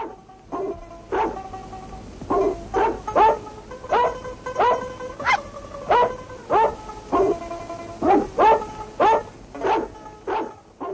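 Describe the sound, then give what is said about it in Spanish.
A dog barks over and over, a dozen or more sharp barks in a quick, uneven rhythm, loud and clear with no one speaking. “Esta vez aprenderán giros inspirados por el mejor amigo del hombre, el perro.”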